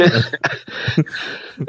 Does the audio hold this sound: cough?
yes